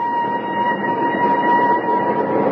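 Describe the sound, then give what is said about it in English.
A train rumbles steadily, its broad low roar joined by a sustained high whistle-like tone running throughout, loud and continuous with no voices. “Oh, I hope he's on this train, Uncle Flax.”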